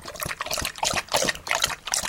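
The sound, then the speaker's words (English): A drinking sound effect: wet, rhythmic liquid sounds like gulping or slurping a drink, repeating in quick bursts about every quarter second with a trickling, splashy texture throughout, fairly loud and without any talking. “No, drinking. That's the wrong sound effect.”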